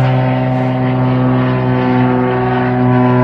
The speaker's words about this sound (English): Planes in the sky tonight. Sprayer. Putting in the long hours.